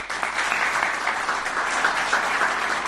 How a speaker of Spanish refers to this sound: Vamos a dar un aplauso a ellos.